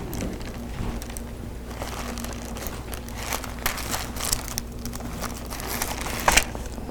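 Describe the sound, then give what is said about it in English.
Paper book pages rustle and crinkle as they are turned, a steady stream of soft papery scrapes with a sharper crackle near the end, and no voices. “One more page.”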